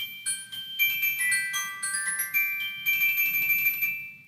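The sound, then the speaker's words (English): Bright, ringing metallic bar tones of a glockenspiel struck one after another in a quick melodic run, each note sustaining with a clear bell-like shimmer, played alone. “Glockenspiel.”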